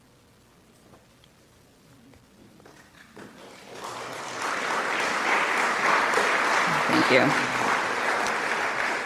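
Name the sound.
audience clapping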